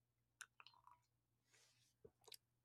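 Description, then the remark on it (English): Quiet mouth sounds of someone sipping hot coffee from a cup: a few lip smacks, a short airy slurp, then a soft swallow and a couple of wet clicks, with no talking. “I'm going to take a sip of my coffee, but just let that sink in.”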